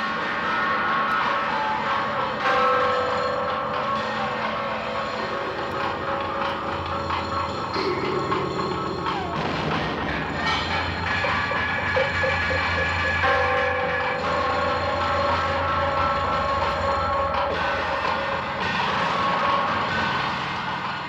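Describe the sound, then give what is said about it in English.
Eerie experimental horror score from the film The Texas Chainsaw Massacre, theme music played on a bunch of instruments: a dense, grinding wall of droning metallic tones and scraping resonances, sustained at a steady, loud level for the whole stretch, with no voices. “That is the Texas Chainsaw Massacre, some of the theme music that courses through the entire film.”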